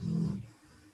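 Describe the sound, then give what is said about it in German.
A dog lying down gives one low, rumbling snore, loud for a moment before trailing off into quiet breathing. “Das Schnarchen war gerade meine Wolke hier, die liegt hier und wackelt etwas mit den Ohren”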